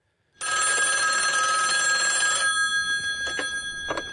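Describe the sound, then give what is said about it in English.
A telephone bell rings loudly and steadily for about two seconds in a film scene set over the phone between Anton Chigurh and Josh Brolin's character, then trails off into a couple of shorter, fainter rattling bursts, with no voices present. “And here's a scene. It's over the phone.”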